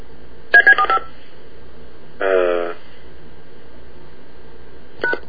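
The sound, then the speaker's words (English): A quick run of four telephone keypad touch-tones, followed by a longer buzzy tone and one more short beep at the end, fairly loud with a faint background hum. “I didn't touch a darn thing except for two touchstones.”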